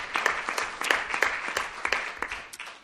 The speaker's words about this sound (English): So a huge round of applause for Frank Legg.